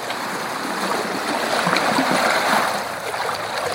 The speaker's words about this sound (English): True to form, the next morning dawns fair and bright, with a good sailing breeze. So off we go, cutting through the water, with therapeutic sounds almost like waves on the shore.